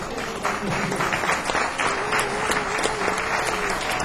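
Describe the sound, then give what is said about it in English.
Steady audience applause for a group of boys the performer introduces as playing with him, a dense wash of many hands clapping at an even, moderately loud level with no voices standing out. “Don't give them a hand.”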